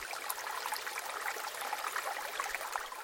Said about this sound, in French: L'océan qui gronde, extrait …